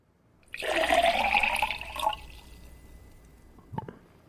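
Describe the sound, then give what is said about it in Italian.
A loud rush of pouring water that lasts about a second and a half, then drops to a faint trickle, followed by a couple of small drips near the end. No voices. “Ah, acqua vera, vera come la bevi.”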